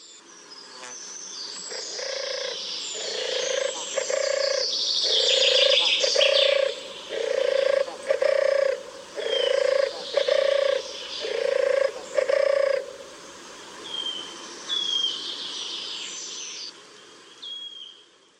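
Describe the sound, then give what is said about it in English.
A turtle dove purrs in a steady series of low, rolling phrases, each a few breaths apart, while smaller birds chirp and twitter faintly in the background. “For many country folk, the gentle rolling purr of the turtle dove is evocative of the splendour of high summer, but this once familiar sound of the sunlit country lanes of rural Norfolk is disappearing.”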